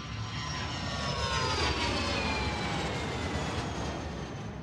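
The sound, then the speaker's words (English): A jet engine roars steadily and loudly, a dense rushing wall of noise with high whining tones gliding slowly downward across it. No voices are heard. “But to get a more detailed idea of the physics behind the jet engine, I went along to the Heritage Museum of Jet Engine Manufacturer Rolls-Royce in Derby”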